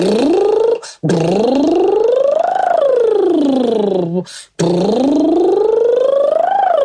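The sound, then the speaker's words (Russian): A voice imitates a toy car engine, as children do in play, with a loud buzzing 'brrr', its pitch climbing and then dropping as the car goes up and down a hill, in three sustained stretches separated by brief pauses. “То есть поднимается и спускается машинка с горки, и голос также.”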